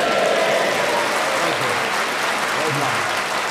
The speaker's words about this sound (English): and you might tread the boards and get a spontaneous round of applause like that, and you might add lib a reply, which he did.